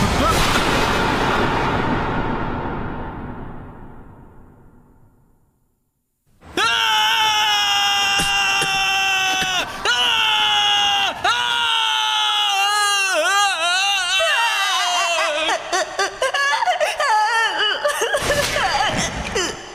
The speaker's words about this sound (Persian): گریه نکن بچه، فقط بچه هایی که پدر مادر دارن حق دارن گریه کنن. بچه هایی که پدر و مادرش ولش کردن حق گریه کردن نداره.